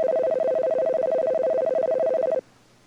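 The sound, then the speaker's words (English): A telephone rings once in a loud, continuous warbling burst lasting over two seconds, an incoming call on an amateur radio reverse phone patch, then cuts off abruptly, leaving faint background hiss. No one speaks. “I've got a reverse patch that I better answer.”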